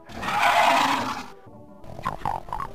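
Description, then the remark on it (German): A harsh, raspy growl of an Imp demon from the video game Doom swells loudly for over a second, then breaks off, followed by a string of shorter snarling grunts. “Die nervigen Imps?”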